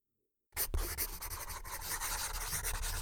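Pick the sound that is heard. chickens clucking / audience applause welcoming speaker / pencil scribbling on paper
pencil scribbling on paper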